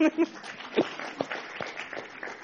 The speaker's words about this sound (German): Für den Menschengerichtshof darf man gerne klatschen.